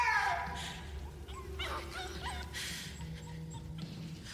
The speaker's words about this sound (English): And she's telling her to shut up and keep the dog quiet.